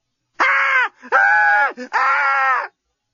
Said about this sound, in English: Lucy had never screamed so well or so effectively in her life. Unfortunately, the effect was not to bring Dan running to her rescue, but to attract the unwanted attentions of her murderous assailant.